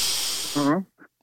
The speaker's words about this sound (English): So take a deep breath for 1 second. Okay. Take a real deep breath, right?